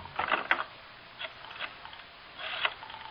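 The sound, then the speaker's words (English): A telephone is dialed with 110 for a long-distance call to Los Angeles: three short bursts of rapid mechanical clicking, fairly quiet, with brief pauses between them and no voices. “can I call L.A. on this phone here? Oh, sure, Mr. Marlowe. Long distance is 110.”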